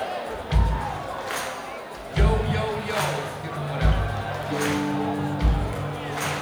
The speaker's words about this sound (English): on the kick drum, when Vinny plays the kick, we love you guys to stomp. And then on the tambourine there, we love a clap.